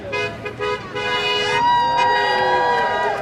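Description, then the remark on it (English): Several car horns from cars passing a Black Lives Matter protest on Wisconsin Avenue near O'Donnell Park blare in support over street noise, overlapping in long sustained honks and a few shorter toots, loud, with faint crowd murmur beneath. “Some cars passing by honked in support.”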